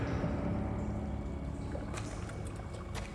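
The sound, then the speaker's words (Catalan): Water sloshes and splashes in a steady wash, with a few sharper splashy bursts near the end as a man heaves up out of the water in a bathtub. No voices. “En Dick surt de l'aigua en una banyera.”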